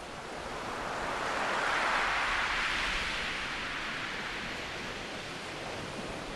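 Bering Sea waves wash onto a beach on St. Lawrence Island in a steady, hissing roar that swells to a peak and then slowly recedes, continuous, with no voices.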